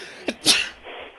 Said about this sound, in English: Hold on, I need to sneeze real quick.